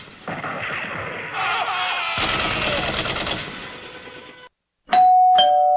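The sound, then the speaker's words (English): A doorbell rings with two bright, ringing chime tones in quick succession, following a loud, rumbling burst of noise and a brief silence. “Will somebody get the door?”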